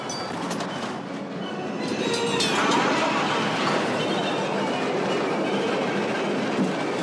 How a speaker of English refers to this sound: Book says the train couplings is one of Ben Burtt's favorite sounds, which of course it is. The classic sounds of train couplings.